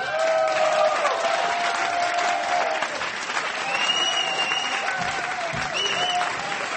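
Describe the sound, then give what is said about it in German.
A live audience in the Comedy Lounge applauds steadily as a guest is welcomed onto the stage, dense clapping filling the whole stretch at a fairly loud, even level, with some whoops and cheers rising above it partway through. “Und ich freue mich und bitte mit großen herzlichen Applaus begrüßen Sie mit mir auf der Bühne hier in der Comedy Lounge”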